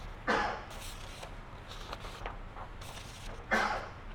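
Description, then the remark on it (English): Two sharp, breathy sneezes burst out about three seconds apart, each brief and fairly loud, over a low steady background rumble with no talking. “Bless you.”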